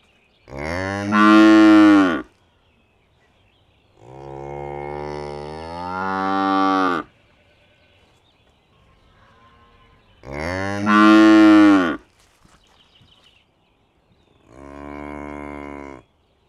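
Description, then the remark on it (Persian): Four long, deep lowing calls from a water buffalo, loud, each lasting a couple of seconds with brief quiet pauses between them and no talking. “گاو میشا یه ذره زورشون از بقیه گاوا بیشتره. آها تازه شاخهای بزرگتری هم دارن.”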